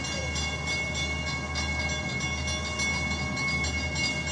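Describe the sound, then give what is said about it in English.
A train with a good load rolls along with a steady, heavy low rumble and a thin metallic whine riding above it, holding an even, continuous loudness throughout with no voices. “We should get the nice stereo pan of the train moving from where it's alive.”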